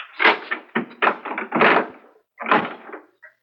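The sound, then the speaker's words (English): A door is unlocked and opened: a quick run of clunks and rattles, a short pause, then a final louder creak-thud of it swinging open. No voices. “Open this door immediately, or I'll have to send for a doctor.”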